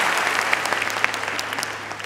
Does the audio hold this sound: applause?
yes